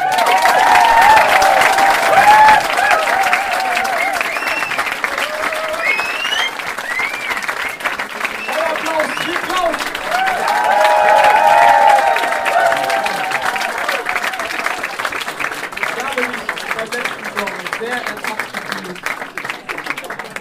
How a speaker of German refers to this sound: Und beim Jubeln, also da, wir haben ja auch mit Applaus quasi abgestimmt, wer gewinnt, und da haben mir echt mal auch die Ohren wehgetan, so krass ja, war das.